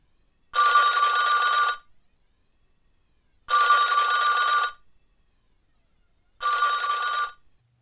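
A telephone rings three times before an answering machine picks up, each ring a steady electronic trill lasting just over a second, separated by equal pauses of silence. The ringing is clear, with no voices.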